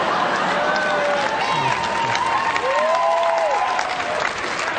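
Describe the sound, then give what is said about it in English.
Sustained applause from a large audience at a live show, a dense, steady wash of clapping with a few scattered voices and cheers rising over it. “Every time people applaud, I'm always going, no, no, no, hold on.”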